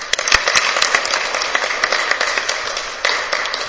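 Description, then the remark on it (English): An audience at a session on AAPIs and aging applauds the AAPI caucus steadily, a dense crackle of many hands clapping at once with sharper individual claps popping out, holding a fairly even loudness throughout with no voices. “So please give her and the caucus a big round of applause.”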